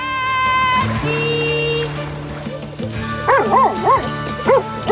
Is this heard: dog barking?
yes